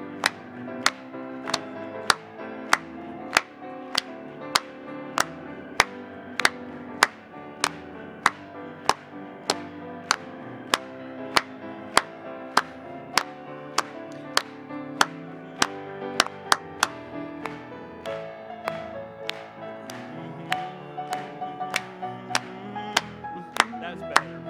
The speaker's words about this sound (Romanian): Haideți doar să o aplaudăm lui.